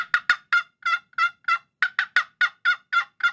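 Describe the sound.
A rapid run of about fourteen raspy, excited turkey hen yelps blown on a game call, loud, in a quick steady cadence with no talking.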